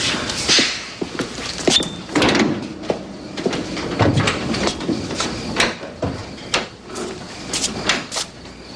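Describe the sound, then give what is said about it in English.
A van's sliding door, which needs fixing, is rolled open and slammed shut, with loud metallic rattles, scraping and heavy clunks repeating over several seconds. “So, Dad, if we're gonna keep this van, we really have to fix the door.”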